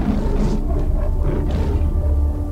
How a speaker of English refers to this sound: A guttural roar swept across the grass.